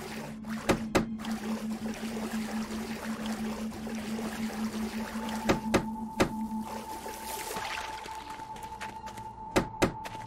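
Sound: water lapping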